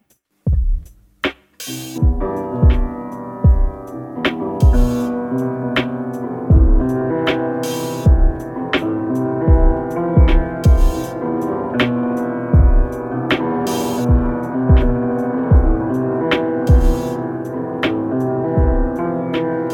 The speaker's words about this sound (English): I've gone and got this piano sample from … on YouTube